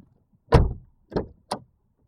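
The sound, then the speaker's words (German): A car door is opened with three solid clunks as two people get out of the parked car after unbuckling their seat belts: a loud latch release followed by two quicker, lighter knocks, with no talking. “Und jetzt dürfen wir beiden den Sicherheitsgurt abschnallen. Ja, genau. Dann dürfen wir aussteigen.”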